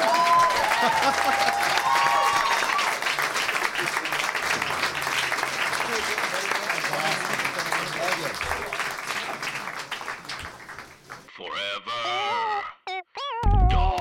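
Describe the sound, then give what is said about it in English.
Loud, sustained audience applause fills about ten seconds, a dense wash of clapping with some cheering at the end of a live comedy show as the performers are thanked, then fades as a few bright, wavering pitched tones and brief voices break through near the end. “Keep applauding.”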